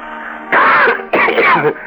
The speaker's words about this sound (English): What are you coughing about? The first one always bites our lungs. Cough harder.